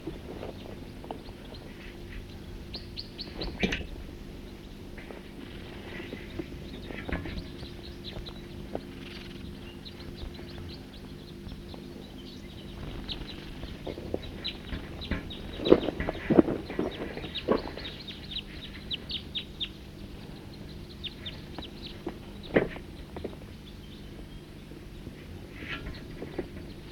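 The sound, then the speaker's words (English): Wild birds drinking at Cataract Creek in a small hollow call in short, scattered chirps and squawks over a steady outdoor hum, some bursts louder, others faint, with no one speaking. “The birds are here, drinking from the creek. Good number of them.”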